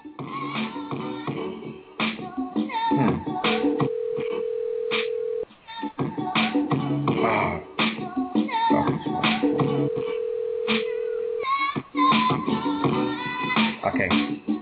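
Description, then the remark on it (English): A phone line rings out twice as a radio host dials out to a caller, each ring a steady, droning tone lasting about two seconds, with busy talking and other sounds filling the gaps around them. “Let's see if that's your phone.”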